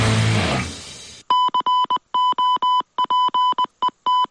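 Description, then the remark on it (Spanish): After a brief wash of noise, a loud steady mid-pitched tone keys on and off in a quick Morse-code rhythm of short and longer beeps, with no talking; a radio station's goal and match-time signal for football broadcasts such as UD Almería versus Rayo Vallecano. “Pues eso es lo que esperemos escuchar a partir de mañana, porque ese es el sonido del gol, del morse del tiempo de juego, y mañana, como decimos, el partido entre la Unión Deportiva Almería y el conjunto del Rayo Vallecano será el primero”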